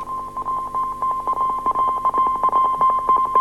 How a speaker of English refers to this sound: Real Morse code or not